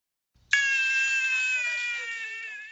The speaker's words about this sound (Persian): کودک گرسنه که برای شیر گریه میکند، این در واقع تصویر معمول در افغانستان امروزی است.